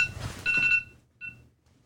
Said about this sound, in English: I don't know how an alarm got set on my phone, but okay. That scared the fuck out of me.